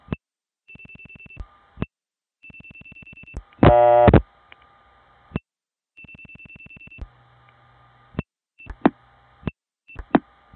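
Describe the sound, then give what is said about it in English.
Telephone line sounds as a number is dialed in a 7-9 crossbar 5 exchange: sharp clicks and steady switching tones, broken by one short, loud burst of ringing on a test line, then more hum and scattered clicks. Nobody speaks. “This one actually rings a line, test line as it turns out.”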